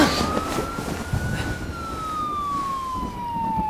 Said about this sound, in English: It's just a siren. It's not even close to here.